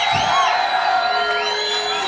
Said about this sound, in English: Now, that's exactly what we need, because anytime you record a live show, you need a live audience. Loud as fucking hell, live audience.